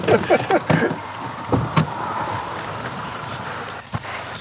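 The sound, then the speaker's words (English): A car pulls up at a house, its engine a steady low rumble mixed with road noise, punctuated by a few short clicks and thuds in the first couple of seconds. “There's a car arriving.”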